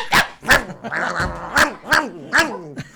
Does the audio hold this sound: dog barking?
yes